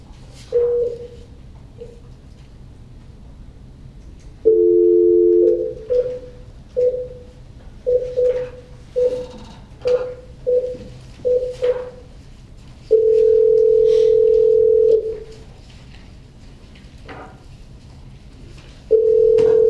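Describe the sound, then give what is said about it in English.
A telephone dial tone hums steadily, broken by a quick series of short keypad beeps as a number is dialed to add another caller to a veterinary board conference call, then a long held tone; no voices, just the phone line, clear. “I'm going to conference you in shortly. I have to also get Dr. Kellen on the phone as well”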